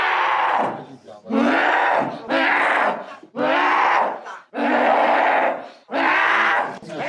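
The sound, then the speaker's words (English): A woman in video footage growls loudly in a harsh, raspy voice while being held down, letting out about six long guttural bursts separated by brief gasping pauses, with no other speech. “She's still growling.”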